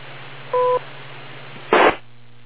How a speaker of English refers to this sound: And also, when you drop and hear the beep, even though you're hearing noises, don't worry. Just go right ahead and start transmitting again.